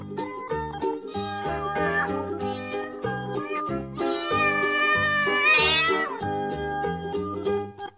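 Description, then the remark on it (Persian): Drawn-out cat meows sound over a bouncy musical backing, with a louder, brighter run of meowing near the middle before the tune carries on. “گربه بازم میندازه به حوض ما نگاهی، یکی به گربه بگه حوض نداره ماهی.”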